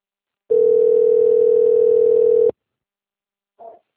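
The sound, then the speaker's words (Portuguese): A telephone rings with one loud, steady electronic tone held for about two seconds, then silence broken by a brief faint blip; it is an incoming call from the bank Santander. No one speaks. “O Santander está me ligando.”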